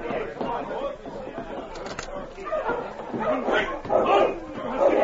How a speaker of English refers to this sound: It seems to me I hear a dog team coming down the street. I do for sure.